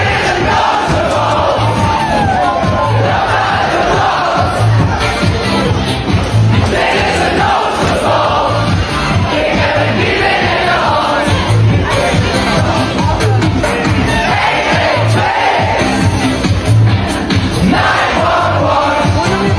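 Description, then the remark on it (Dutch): A large festival crowd jumps, roars, screams and sings along to the music together, loud, with a steady thumping beat pulsing underneath the whole time. “Dat iedereen daar stond te springen en te schreeuwen op die, zeg maar, die muziek naast stond te zingen, zeg maar.”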